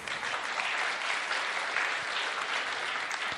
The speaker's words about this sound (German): Und das Tolle, ja, ihr dürft klatschen, ja.